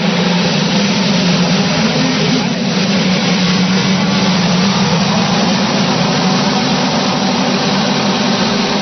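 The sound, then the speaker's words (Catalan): A loud, dense roar of many Formula 1 cars accelerating together into the wind at a race start, engines screaming in a continuous wall of sound that stays steady throughout, with no voices. “Aquesta sortida d'automòbils de Fórmula 1 necessita molta, molta benzina per poder ser com l'esteu escoltant. Soroll de motors, acceleracions contra el vent.”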